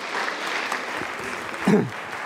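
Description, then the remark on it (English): A crowd claps steadily for the cast in a dense, even wash of applause, with a brief louder swell and a few voices calling out partway through. “Give our cast a round of applause, will you?”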